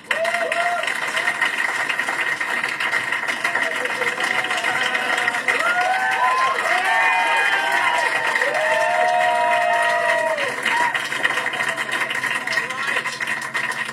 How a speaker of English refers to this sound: His grandchildren are in the audience tonight, so give him a warm round of applause. Applause, everyone.